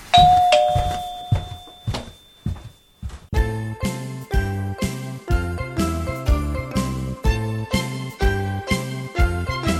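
A bright doorbell chime rings out clearly at the start, its tones lingering briefly, followed by scattered knocks and then a steady, rhythmic jingly tune playing loudly for the rest.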